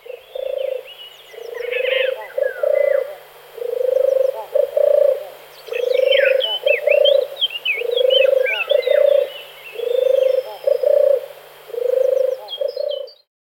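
A turtle dove's soft, rolling purr repeats in a steady series of low, trilled phrases, with thin songs of other birds chirping faintly above it.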